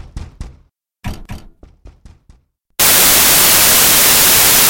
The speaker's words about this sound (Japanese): え？ねえ。なんで、この部屋が、ノックされてるのかな？